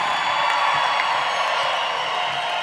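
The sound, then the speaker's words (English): A dense, steady wash of live crowd noise at an evening event: many voices cheering and whooping together at a fairly loud, constant level, with no single voice standing out. “We have a really good crowd out here. Have you noticed this tonight?”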